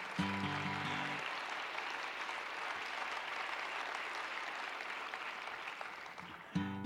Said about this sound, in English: she deserves some applause, doesn't she? Yes.